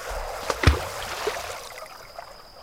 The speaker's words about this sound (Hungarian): A patakmeder olyan hirtelen bukkant elő a semmiből, hogy belezuhantam a vízbe a partról.